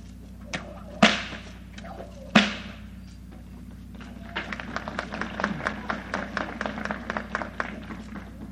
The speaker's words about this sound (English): Trick to do with a whip.